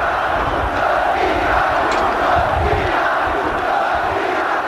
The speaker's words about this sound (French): Et c'est là où moi je me rends et soudain quelqu'un derrière moi a crié « Abat Ceaușescu ! Abat Ceaușescu !» et tout de suite plusieurs centaines de gens se sont mis à crier.